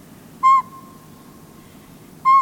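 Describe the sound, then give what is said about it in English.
Two clear, hollow whistled toots from a northern pygmy owl, spaced nearly two seconds apart over quiet low background hum, each note short, steady and fairly loud. “Birds like the northern pygmy owl have large, black, eye-shaped markings on the feathered back of their brown heads, a plumage adaptation that creates a pair of false eyes.”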